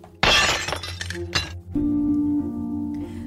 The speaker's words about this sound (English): I'm sorry, our producer is loudly eating Cheez-Its over there.